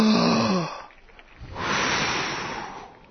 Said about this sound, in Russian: Я прошу прощения, волнуюсь. Ну, дыши глубоко. Давайте вместе все подышим.